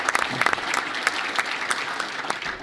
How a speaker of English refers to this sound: I really don't think anybody could have done a better job under more trying circumstances than Harry Reid, and I think he deserves a huge round of applause.